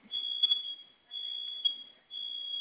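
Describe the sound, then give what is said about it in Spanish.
A home security alarm, set off by pressing its two fire buttons at the same time, keeps sounding after the new code is entered, in loud, high-pitched tonal bursts, three long pulses about a second apart, with faint background noise and a few soft clicks between them. “No se ha silenciado.”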